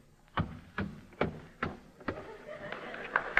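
A radio sound-effects man walks up a specially constructed wooden flight of stairs beside a microphone, a steady series of hollow thuds about twice a second, fairly loud, growing softer and busier toward the end.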